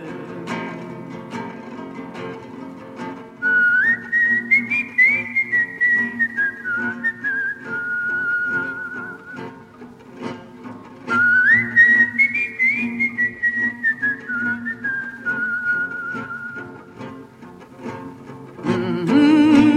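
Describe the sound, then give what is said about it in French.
A clear whistled melody of Le Chant des Partisans, the French Resistance song, slow and solemn, two similar rising-then-falling phrases with gliding notes, carried over a soft, low sustained backing. “le chant des partisans.”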